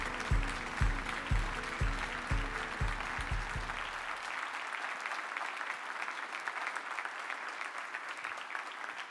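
A large audience applauds steadily and loudly throughout, a dense wash of clapping. For the first few seconds a deep, rhythmic thumping beat pulses underneath, then the applause continues on its own.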